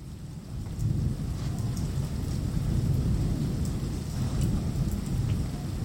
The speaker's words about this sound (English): And within days, it starts to drizzle right after the start of the new year. And then a few days later, there's rain.